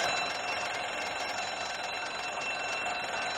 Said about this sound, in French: Et là, on va être typiquement sur le réveil